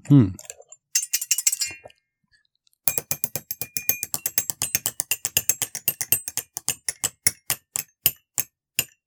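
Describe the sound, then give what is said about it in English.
A Rotolactor mechanism, pushed to turn while its bell is stuck, giving off a long run of sharp ratcheting clicks that start quick and even, then gradually slow and spread apart. A short burst of noise comes before it. “This is quite an interesting Rotolactor”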